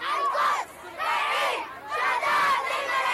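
protest crowd shouting

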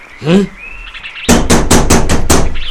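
knocking on a door

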